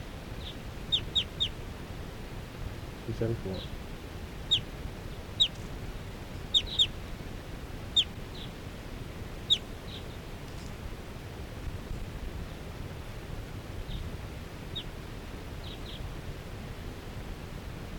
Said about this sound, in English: And the wild birds, four wild birds in the flock are calling. They're gonna take off.